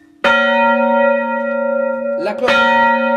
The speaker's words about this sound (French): Alors pour Pâques, on ne peut pas sonner les cloches au battant, à la bélière, parce qu'elles se balancent. Donc on les sonne à la volée.